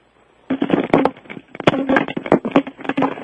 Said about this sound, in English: She's hitting the phone with a ring.